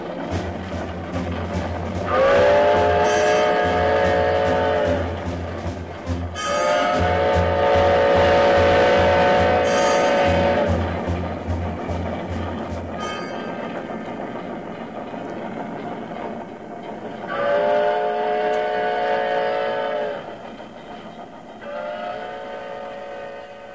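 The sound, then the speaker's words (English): A steam locomotive in the CBS Radio Workshop presentation The Ballad of the Iron Horse chugs with a steady low chuffing rhythm while its chorded whistle sounds several long, loud blasts; the chuffing fades partway through and later whistle calls ring out alone. “Oh, he puffed and he panted, his old iron horse. Black and smoke and cinders, a mark in his course.”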